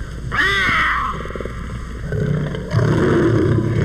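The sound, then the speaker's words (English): A puma (mountain lion) gives a shrill, wavering cry, followed by rapid, rhythmic purring pulses and a rougher, breathy rumble, with no talking. “And this is the purring of the puma or mountain lion. A purring which he punctuates with this shrill cry.”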